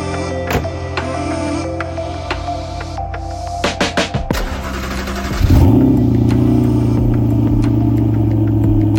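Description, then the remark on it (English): A 2014 V8 Audi R8 engine hums steadily, then a few sharp clicks come before it surges in a loud rev and settles into a deep, rumbling, steady idle. No one speaks. “Welcome to my 2014 V8 Audi R8.”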